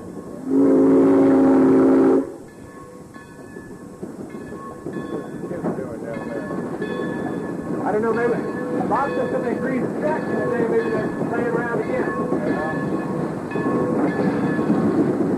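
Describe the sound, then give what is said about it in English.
A loud, steady whistle blast lasting about two seconds, then the continuous rumbling clatter of a steam train running along the tracks, with voices talking over the noise. “He wanted it to be a steam train to last out.”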